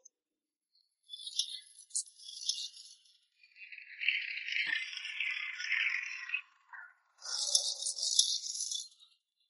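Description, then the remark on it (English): A track renewal train at work, with a crane lifting rails, rattles and clatters in three bursts of bright, high-pitched metallic noise, with brief pauses between them. No one speaks. “The track renewal train is working so quickly.”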